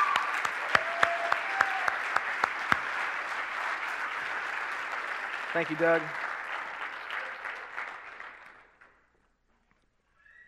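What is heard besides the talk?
audience applause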